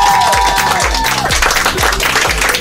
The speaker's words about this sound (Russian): Судя по аплодисментам, у нас по-прежнему в гостях